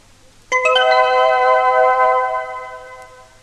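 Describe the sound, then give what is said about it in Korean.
A phone ringtone starts suddenly and plays loud, a bright electronic chime with rich overtones that holds for about three seconds before fading. No one speaks. “전화벨 소리가 잘 안 들리는데요?”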